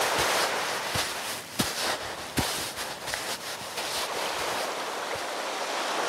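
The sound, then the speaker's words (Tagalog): A continuous wash of sea waves and surf with a faint windy roar, broken by a few sharp knocks and splashes like a boat hull rocking on the water. No voices. “Maghahanda muna ako ng bangka para kumalabot.”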